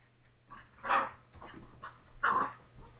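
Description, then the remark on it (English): Two dogs wanting to go outside bark loudly and excitedly, two strong bursts standing out among quicker yips and whines in an agitated, overlapping chorus with a low steady hum underneath. “And I know it sounds like they're killing each other, but they actually are excited. And loud.”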